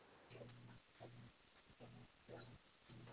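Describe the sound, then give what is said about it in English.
A female dog grunts like a pig, about five short snorting grunts in a steady rhythm, moderately loud with little else around them. “My dog runs like a pig.”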